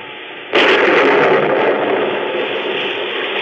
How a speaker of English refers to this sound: It's the story of a simple melody and of a killer who, as our story opens, is fighting desperately and alone against a raging storm off the coast of Maine. The lifeboat he is in is half foundered, and the man's wild rowing does little good.